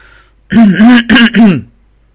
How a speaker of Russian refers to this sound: кашлянул в последний раз.